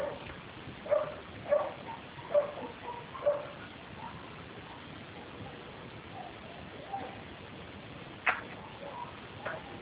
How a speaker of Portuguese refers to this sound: De vez em quando tem os cachorros também, é gato, cachorro, galinha.